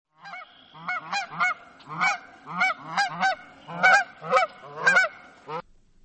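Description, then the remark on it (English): Canada geese honk loudly and repeatedly, a dozen or so harsh, nasal calls overlapping in quick succession from a flock, with no voices present. “Most of us are familiar with the loud honking of Canada geese.”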